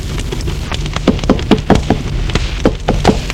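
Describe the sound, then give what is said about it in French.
A maid knocks on a door: a string of sharp knocks, around ten in quick, uneven succession, over a steady low rumble. The knocks are moderately loud, and no one speaks. “On a frappé à la porte.”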